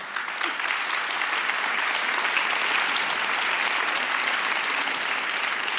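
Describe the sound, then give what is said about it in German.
An audience at a book fair claps steadily for several seconds to welcome authors Katja Oskamp and Martina Hefter, a dense, even wash of many hands with no voices standing out, holding a constant loud level throughout. “Bitte einen Applaus.”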